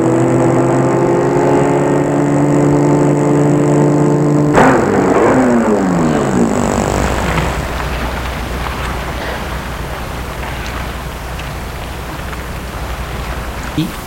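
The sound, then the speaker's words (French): A car engine hums steadily, then its pitch sinks as the car slows and comes to a stop in front of an apartment building, leaving a soft, rain-like hiss in the background. “La voiture va s'arrêter devant l'immeuble où il habite.”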